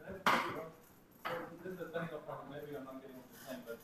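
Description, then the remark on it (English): Chalk knocks sharply against a chalkboard twice as a speaker giving a talk writes on it, each hard tap trailing into scratchy strokes, then lighter scraping continues under a faint murmur of voices. “Can everybody see if I write on the chalkboard over here?”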